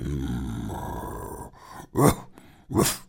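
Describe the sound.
A low, rumbling beast-like growl builds for a moment, then breaks into two loud, harsh snarling bursts, like a werewolf growling, with no talking.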